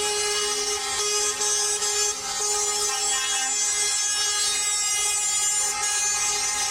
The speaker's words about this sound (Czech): Sirene sa kamiona ponovo su danas upozorile na problem prevoznika koji se iz Evropske unije deportuju nakon 90 dana.